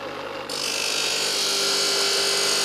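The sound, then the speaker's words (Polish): An angle grinder cuts a scrap steel leaf spring into pieces for axe heads with a harsh, steady metallic screech. It starts abruptly after a brief motor hum, loud, and carries on without pause. “Ze złomu resory ucinam, puszczam szlifierkę.”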